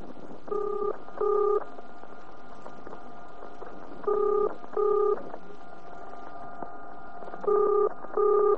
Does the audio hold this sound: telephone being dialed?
yes